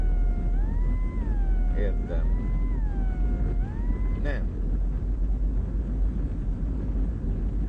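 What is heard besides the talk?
heavy street traffic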